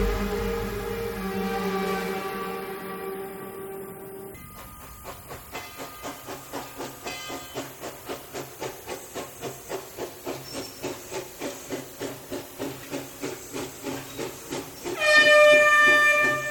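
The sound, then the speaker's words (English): A steam train arriving at Khan Station chugs in steady, quickening puffs with hissing steam, loud, ending in a sharp burst of venting steam and a brief whistle-like tone. No one speaks. “When the train passed the last curve, the city could be seen in the distance.”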